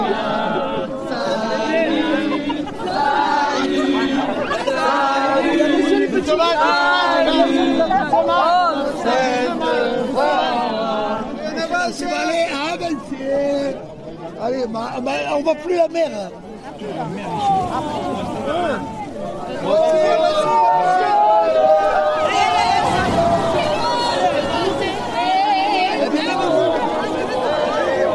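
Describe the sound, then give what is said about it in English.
A large crowd chatters continuously on a beach of golden white sand during a procession for St. Sarah, lining up to make way for people walking into the water. Many overlapping voices form a dense, lively babble that stays loud throughout, with occasional raised calls rising above the hubbub. “There's a line of crowd making way for us to walk through and to walk into the water for St.”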